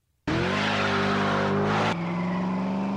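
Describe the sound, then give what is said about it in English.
An American V8 muscle car engine bursts into a loud rev after a brief silence, its deep throaty roar climbing in pitch before dropping to a steady, rumbling high idle. “That's the unmistakable sound of American V8 muscle that revs the hearts of the young and old alike.”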